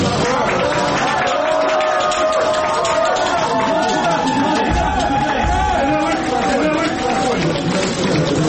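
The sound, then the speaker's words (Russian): A crowd in the Dorogomilovsky district court in Moscow breaks into a loud, sustained ovation after the judge orders a defendant moved from custody to house arrest: dense applause mixed with excited shouting and overlapping voices, holding at a steady roar for the whole stretch. “Зал взорвался овациями.”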